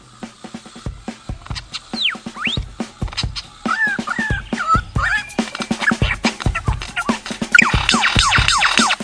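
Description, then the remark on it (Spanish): A bird mimics Star Wars sound effects, producing rapid clicks, swooping whistled tones and warbling electronic-like bleeps that grow denser and louder toward the end. “Eso que es, imita todos los sonidos de la película de Star Wars.”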